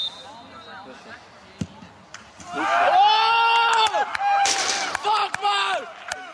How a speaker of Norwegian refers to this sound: Du hørte en dommerfløyte, eller en fløyte annet slag. Okay. Var det to fløyter? Før en gang til. Er ikke det to fløyter? Er det to fløyter? Nei, det er bare ekko.